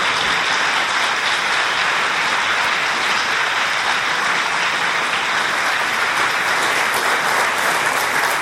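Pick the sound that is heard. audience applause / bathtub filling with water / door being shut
audience applause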